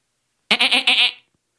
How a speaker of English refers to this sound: Yes, I'm a goat. I have a beard on my chin.